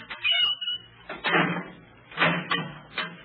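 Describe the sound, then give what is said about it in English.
A heavy prison cell door swings and clanks shut as a prisoner is put back in, a series of loud metallic bangs and rattles with short pauses between them, and no voices. “All right, you men. Stand back from the door.”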